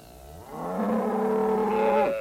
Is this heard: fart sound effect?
no